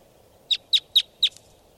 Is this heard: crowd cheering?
no